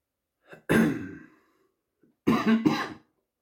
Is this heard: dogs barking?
no